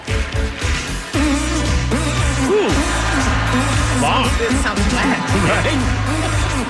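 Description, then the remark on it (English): Squelchy, buzzing hand-fart noises made by a kid play a sliding, tuneful melody, loud, running almost nonstop with pitch bends and a brief pause near the start. “How does he rate with our American hand farter?”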